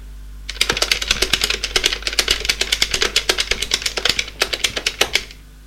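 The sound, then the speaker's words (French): Rapid typing on a computer keyboard while looking up a phone number: a quick, slightly uneven stream of sharp key clicks lasting about five seconds, fairly loud and alone, with no voices. “Il prend son ordinateur pour voir le numéro de téléphone.”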